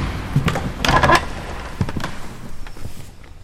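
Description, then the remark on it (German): The heavy door of the city council chamber in Herne, Germany opens: a latch clunks, the hinges give a short strained creak, and a few dull knocks and thuds follow as it swings. No one speaks. “Etwa einmal im Monat gehen 64 Abgeordnete durch diese gewaltige Tür in den Herner Ratssaal.”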